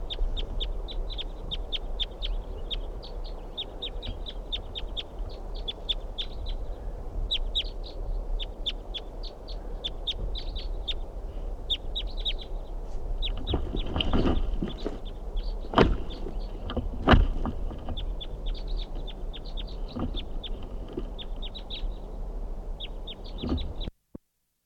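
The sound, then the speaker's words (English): A single wild bird, an orange male, calls over and over at a campsite in short, high chirps, repeating steadily above a constant low rumble, with a few dull knocks partway through. No one speaks. “Orange male, lone bird.”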